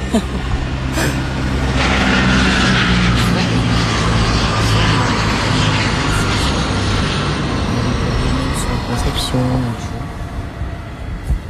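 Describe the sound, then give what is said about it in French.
A loud helicopter arriving at a helicopter landing pad roars overhead, its engine drone and low thrumming rotor filling the whole stretch before easing slightly toward the end. Indistinct voices may sit faintly beneath the noise. “Alors quand les hélicos passent, tu te rejoues, comme je te dis, c'est cadeau.”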